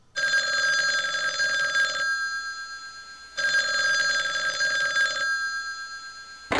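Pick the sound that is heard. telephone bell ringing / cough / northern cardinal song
telephone bell ringing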